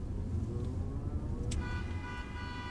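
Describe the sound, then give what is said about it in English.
Steady New York City morning traffic rumbles throughout, low and continuous, with a short sharp burst midway followed by a sustained tonal note like a horn or siren over the din. “The traffic is bad this morning.”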